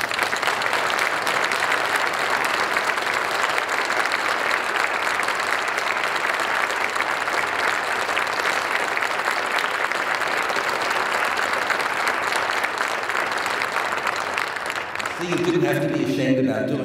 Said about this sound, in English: So now let's really hear a round of applause.